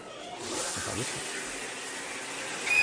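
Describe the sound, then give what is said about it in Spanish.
A shower runs with a steady hissing spray of water that continues throughout, briefly swelling louder at the very end. “¿Tú recuerdas, por ejemplo, la película Psicosis, cuando Janet Leigh es apuñalada por Anthony Perkins en la ducha?”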